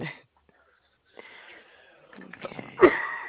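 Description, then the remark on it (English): A single sharp cough bursts out near the end, preceded by soft breathy rustling and wheezy inhalation, all with a narrow, telephone-like tone. “Oh, excuse me. I had to cough.”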